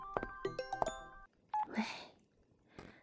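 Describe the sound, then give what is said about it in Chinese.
A quick run of close, clear electronic telephone tones, several beeps in uneven rhythm over about a second, as someone goes to answer a phone call, then a single short tone followed by soft rustling noise. “我去接个电话啊”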